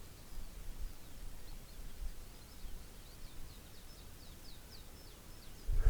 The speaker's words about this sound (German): Dass man so durch die Berge wandert und dann so ein Schwarm Kanarienvögel hört. Das, ist nicht die Regel, kommt nicht oft vor.